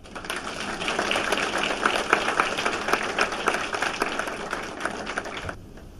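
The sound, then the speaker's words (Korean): An audience claps steadily together for God as a visiting pastor from the United States comes forward, a dense, sustained wash of many hands applauding for about five seconds before it cuts off abruptly; no one speaks over it. “나올 때는 하나님께 박수를 치시기 바랍니다.”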